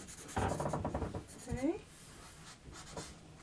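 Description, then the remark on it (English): Rapid scratching of a magic felt pen, not working very well, scribbling on paper in a quick burst of strokes, followed by a brief voiced sound and a few softer scrapes. “I think this needs, I think these pens need a rest. They're not working very well now, are they?”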